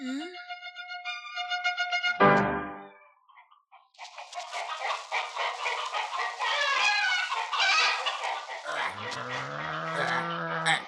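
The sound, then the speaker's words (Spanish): Hens cluck and squawk busily in a crowded henhouse, a dense, lively chorus after a brief harmonic call and a short pause, with a louder squawk near the end. “Como este de la zorra, que empieza en un gallinero.”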